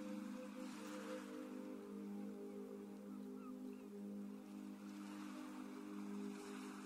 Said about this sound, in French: Le bruit des vagues vous parvient et accompagne toujours votre respiration avec cette même régularité.